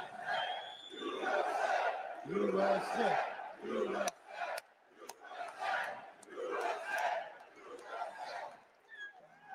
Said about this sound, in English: Sounds like a small crowd.